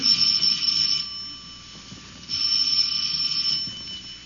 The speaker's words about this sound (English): And the second time last week that romance entered the apartment of George and Sapphire was when Herbert Jackson, a magazine solicitor, rang the Stevens doorbell.